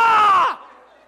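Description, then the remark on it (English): A person gives one loud, harsh cry in imitation of a raven's caw, held for about half a second before the pitch drops and it trails off into quiet. “And I realized it wasn't a crow. It was a Baltimore Raven celebrating the Super Bowl.”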